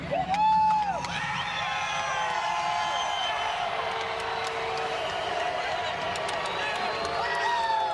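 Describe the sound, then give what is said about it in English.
A large Daytona 500 race crowd roars steadily at the finish as Denny Hamlin wins and his crew celebrates in Victory Lane, with booing mixed into cheers, whoops and whistles, holding loud and continuous through the whole stretch. “Now, you heard some booing there at the end.”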